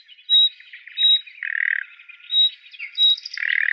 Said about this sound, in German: Und ich glaube, auch Rufe sind bei ihr relativ selten. Das sind dann in der Regel Alarmrufe. Über dieses Hüb? Ja. Spiel doch mal die Nachtigall ab, wie die ruft.